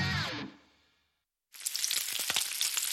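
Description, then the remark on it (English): Johnsonville sausage strips sizzle loudly in a hot pan, a dense hiss speckled with sharp crackling pops, starting abruptly after a fading tone and a brief moment of silence. “Hear that? Sounds like sizzling bacon, right? Trust me, it looks like bacon too. Only it's not. It's Johnsonville Sausage Strips.”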